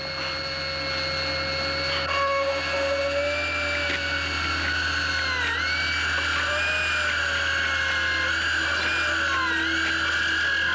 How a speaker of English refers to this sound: It's worse on sound than it is in vision, in fact. No, it's more like the real thing where you have your eyes clenched shut and you're just hearing the sounds of the drill.